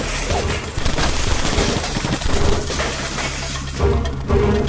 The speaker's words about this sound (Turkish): Silahlı grup kapıyı kırıp içeri girdi. Duvarın dibindeki kız olduğu yere daha da çöktü. İçeri girip her yere ateş etmeye başladılar. Duvardaki tablolar, vitrin, kitaplar, televizyon, sehpanın üzerindeki sürahi, her şey paramparça oldu.